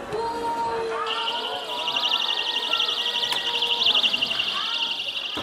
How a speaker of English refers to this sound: Blaming a growing national incidence of sexual assault on immigrants, they've launched a campaign under the hashtag 120dB, or decibels, in reference to the volume of the rape alarms they say women across Europe now have to carry with them.